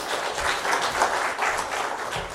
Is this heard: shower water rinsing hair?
no